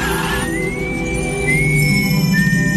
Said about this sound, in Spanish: Y el silbido... el silbido característico.